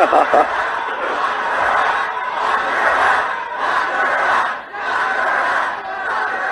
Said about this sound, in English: Crowd saying, lock her up, lock her up.